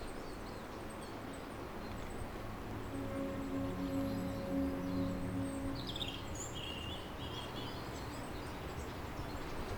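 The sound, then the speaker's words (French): A mountain torrent rushes in a steady, dense roar throughout, with a faint low hum rising midway and a few brief bird chirps near the end. No one speaks. “Petit panoramique sur le torrent.”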